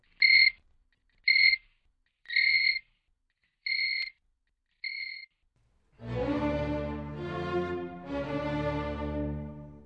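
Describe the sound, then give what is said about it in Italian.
A cricket makes its last sounds: five short, high, buzzy chirps about a second apart, clear, then a louder, sustained, rich tone that swells and wavers to the end. “ma disgraziatamente lo colse per l'appunto nel capo, tanto che il povero grillo ebbe appena il fiato di fare...”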